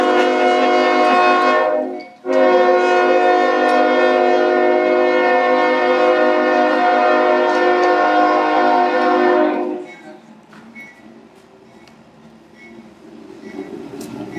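A passing train blasts its horn loudly and steadily for several seconds, with one brief break, then the horn stops and a fainter rolling rumble lingers as the train moves on.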